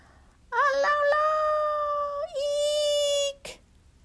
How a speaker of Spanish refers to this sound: Pero, justo cuando Pequeño Chasqui acelera colina abajo, un aullido perfora sus oídos.